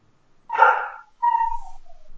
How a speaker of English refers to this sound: Oh, wow. There was like a dog bark in there. Whoa, did you hear that?